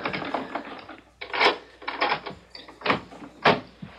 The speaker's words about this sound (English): hold the groceries while I open the door.